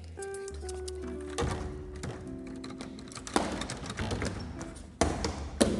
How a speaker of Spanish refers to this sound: El joven miró a su joven compañera y sonriendo, pensa a que el agua le escalaba hasta los huesos, otra vez el joven volvió a batir el aldabón.